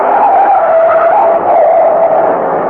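A truck skidding toward a person gives a loud, sustained tire screech, holding a strained, wavering pitch for nearly three seconds, continuous, with no voices.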